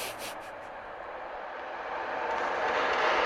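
A steady, broad rushing roar of discharged water pouring into a river, rumbling like a passing train, holding constant and growing slightly louder toward the end, with no voices.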